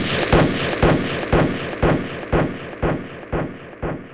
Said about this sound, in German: Er dachte, dass er einer bösen Fratze zu Leibe rückte, als er mit seinem Finger den Pistolenabzug drückte.